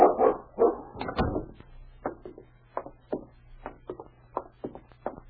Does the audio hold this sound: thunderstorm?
no